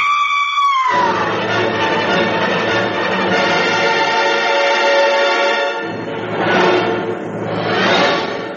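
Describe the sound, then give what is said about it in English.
A loud, sustained human scream that starts with a falling wail, holds a strained pitch, then surges upward twice near the end, with no other sounds around it. “The screaming had ceased, but we could still hear Judy sobbing.”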